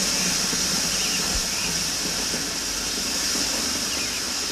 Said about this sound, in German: So, noch eine letzte Kanne, dann hat sich's für heute mit dem Gießen.